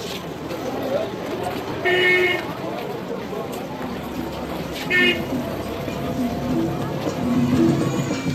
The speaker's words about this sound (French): Maelstrom de voitures qui ne peuvent parquer. Pendant que les maîtres sont à la bourse, les chauffeurs tournent sans arrêt autour du marché de l'argent.